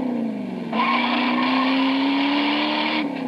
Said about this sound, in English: Motor Trend magazine has just named the 1969 Plymouth Roadrunner as Car of the Year. Listen to just a few of the reasons. Power from a standard 383 cubic inch, 335 horsepower wedge V8 engine.